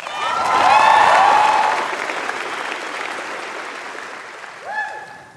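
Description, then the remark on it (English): An audience at a BYU ceremony stands and breaks into loud, sustained applause with scattered cheers and whoops for their families, swelling in the first two seconds and then settling into steady clapping as a few high-pitched shouts ring out near the end. “But amid all this acclamation for you, can we show how much their love and support means by standing with me to applaud and to cheer those who have brought you here?”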